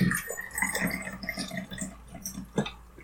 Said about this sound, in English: And by worst, I mean I'm going to pour a shot of scotch.